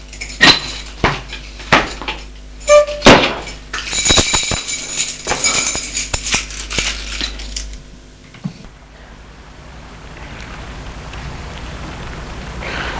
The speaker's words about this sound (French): Merde, les clés. Qu'est-ce que j'en ai fait? Je ferme la porte à clé.